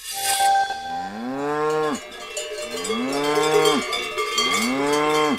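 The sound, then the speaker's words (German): A cow moos loudly three times in long, drawn-out calls, with a steady jangle of cowbells ringing throughout in the background. “Wie verhält man sich richtig, wenn man auf eine Kuh trifft?”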